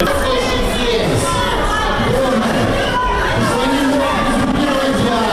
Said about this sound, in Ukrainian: Під час складання присяги міського голови Борисом Філатовим група невідомих людей у залі почала вигукувати «Ганьба». Вони називали себе представниками громадськості.